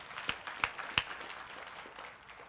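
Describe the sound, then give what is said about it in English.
A few scattered handclaps from an audience, three sharp claps about a third of a second apart, then a quieter, fading patter with no one speaking. “You can clap.”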